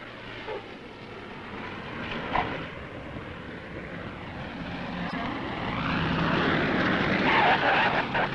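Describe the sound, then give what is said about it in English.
Propeller airplanes streaming in from the lower 48 states with food, water, supplies and equipment drone steadily overhead, the engine roar swelling louder toward the end with a shifting, sweeping pitch, while indistinct voices murmur faintly underneath. “Now, toward the end of the second day, the planes start streaming in from the lower 48, bringing food, supplies, water, and irrigation pipe, 100 kinds of equipment.”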